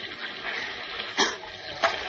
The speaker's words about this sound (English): A stiff breeze lashes the sea into angry white-capped waves that pound at the shipwrecked trio as if trying to tear them loose from the upturned hull. Listen.